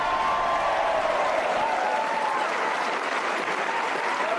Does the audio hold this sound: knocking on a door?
no